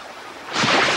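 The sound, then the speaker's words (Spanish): Ocean waves surge in, a soft hiss that swells abruptly into a loud, broad rush of churning water as Misae falls into the sea, with no voices present. “Cae al mar.”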